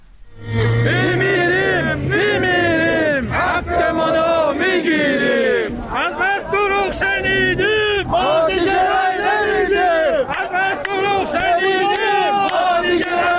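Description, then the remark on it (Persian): A large crowd of protesting retirees who have entered Social Security buildings in Kerman and Shush, Iran, chants slogans in unison, loud and steady throughout, with rhythmic shouted phrases rising and falling over a constant murmur of voices. “بر اساس فیلم‌های منتشر شده در شبکه‌های اجتماعی، بازنشستگان در کرمان و شوش وارد ساختمان‌های تأمین اجتماعی شدند و شعار دادند.”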